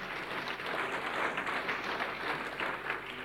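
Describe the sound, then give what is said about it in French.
An audience applauds steadily for a professor acknowledged in a speech, dense overlapping claps forming a continuous, moderately loud wash of sound with no voices standing out. “le professeur, oui, applaudissez.”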